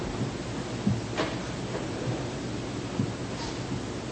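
Steady, hissing rain pours throughout, with low thunder rumbling underneath and a few soft thuds. No one speaks over the storm.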